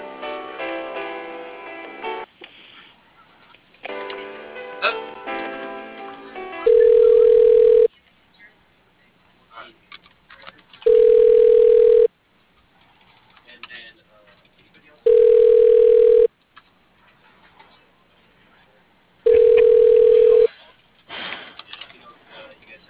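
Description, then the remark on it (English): A phone call to an accounts payable desk rings out four times before reaching voicemail, each ring a steady, loud, mid-pitched tone lasting about a second, evenly spaced several seconds apart, with murmured talk and background sound between rings. “I'll be right there after I leave this voicemail.”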